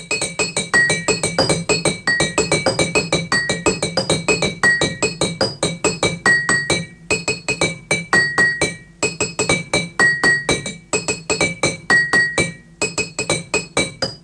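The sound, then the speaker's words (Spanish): A steady, rhythmic run of bright glassy clinks from a row of water-filled glass bottles of different sizes, taken from a shop and struck rhythmically. Ringing tones at several pitches repeat in short bursts with brief pauses between phrases, no voices. “Una ringlera de botellas que sacaba de la tienda de mi padre, todas de diferentes tamaños y llenas de agua”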